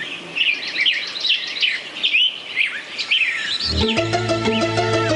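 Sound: birds singing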